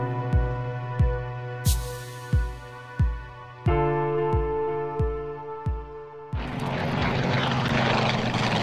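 A propeller airplane drones loudly overhead at Terneuzen, its engine hum pulsing in a steady rhythm before giving way to a broad rushing roar as it passes, after hitting a boat of fleeing Germans.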